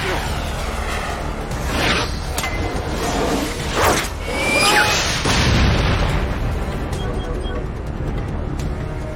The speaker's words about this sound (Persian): شناسایی شد، شلیک میکنم.